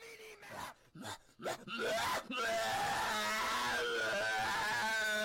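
A few short, breathy vocal bursts give way to a loud, sustained scream that holds for several seconds at full intensity, strained, with a wavering pitch.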